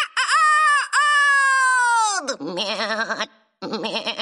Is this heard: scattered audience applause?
no